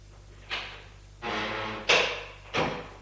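household object, kitchen door opening

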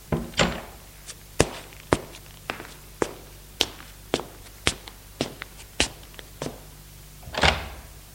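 household object, door opening

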